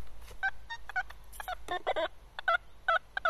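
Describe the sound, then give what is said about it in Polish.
A metal detector responds to a bottle cap with a series of short, warbling electronic tones, about eight bursts at a mid pitch in an uneven rhythm, with no talking. “To będzie kapsel.”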